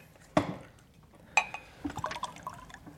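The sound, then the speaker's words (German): Water splashes and trickles into a glass, with a couple of sharp clinks and a bright, bubbling pour that rises and fades over a few seconds, fairly quiet. “Könnten Sie mir wohl ein Glas Wasser geben?”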